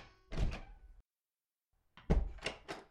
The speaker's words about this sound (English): After a while, the voices stopped and the children heard the front door open and shut.